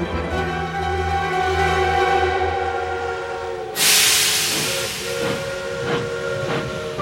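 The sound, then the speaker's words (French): A steam locomotive's whistle blows a long, steady tone, then a loud burst of hissing steam erupts and settles into rhythmic chuffing, with no voices present. “On invente la locomotive à vapeur, la photographie, l'ampoule électrique, le cinéma.”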